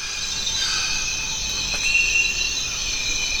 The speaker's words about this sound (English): Welcome to the Zabalo River in Ecuador's Amazon rainforest. It's one of the world's remaining truly quiet places. These are places that are largely free from human-made noise.